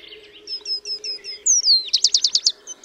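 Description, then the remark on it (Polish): A bird sings a song of repeated whistled syllables, starting with a row of short even notes, then a sliding whistle and a louder burst of rapid, warbling, modulated whistles, over a low steady hum. “Jego piosenka natomiast jest mieszaniną głosu kontaktowego z ciepłymi, modulowanymi gwizdami.”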